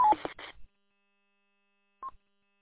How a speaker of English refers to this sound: Alpha Alpha Zero Hotel Pop, please turn off your Roger beep. You don't need to send a Roger beep on the network. Thank you.